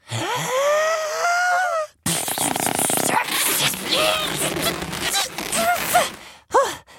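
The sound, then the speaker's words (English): Rubbery balloon squeaks as it gets twisted into a balloon creation: a long, loud whining squeal for two seconds, then a busy stretch of crackling creaks and short squeals, ending with two quick chirps. “Just for that, I will make you the most special balloon creation ever!”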